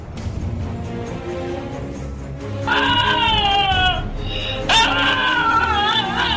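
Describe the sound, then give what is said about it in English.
A dog standing on its hind legs, made to give the sound on cue for a treat, lets out two drawn-out, wavering high cries that sound oddly like a goat's bleat, the second starting with a sharp yelp, over a steady murmur of background noise. “You are, in fact, totally wrong. No. No way. That is, in fact, a dog.”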